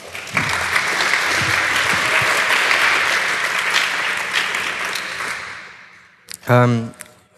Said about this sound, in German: Bitte einen Applaus.